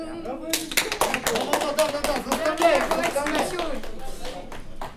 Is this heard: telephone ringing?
no